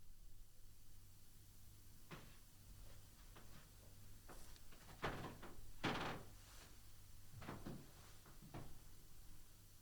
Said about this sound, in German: Du, wir können die nicht verarschen, die Leute, man hört dieses Knarzen, dass du hier noch drin bist.